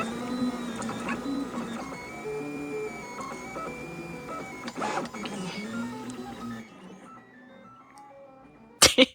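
3D printer stepper motors whine and whistle in shifting, melodic tones, steady for several seconds before fading, then a couple of sharp clicks at the end. No talking.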